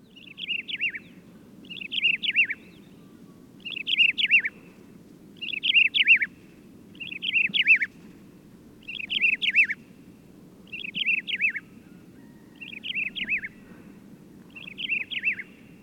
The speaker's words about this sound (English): That includes, of course, the desert lark, Amamanes deserti. This bird wears the standard-issue uniform of a desert dweller, nondescript plumage that's a plain grayish-brown overall.